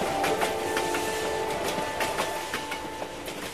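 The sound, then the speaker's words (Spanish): A steam locomotive-pulled train climbing hills rolls steadily along the rails, wheels clacking over the joints in a regular rhythm beneath a continuous rumble and a faint, steady metallic whine, with no voices. “Soñador incorregible, y podía oír así el ferrocarril de una locomotora trepando los cerros increíbles.”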